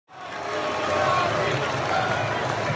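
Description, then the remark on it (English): A large arena crowd at TD Garden roars and cheers for Kyrie Irving, who is holding a microphone and talking to season ticket holders. The cheering is a dense, sustained wash of voices that swells quickly and stays loud and steady throughout. “That's the crowd cheering Kyrie Irving at TD Garden.”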